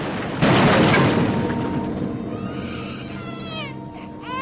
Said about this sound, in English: They hurry into a large shelter and close the doors just before a bomb lands nearby on a supply truck. Explosions rain down all around, creating clouds of smoke.